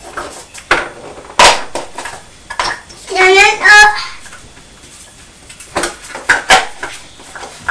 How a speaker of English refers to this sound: Trying to put the pots in there. Can you stack the pots? You could count them if you stack them.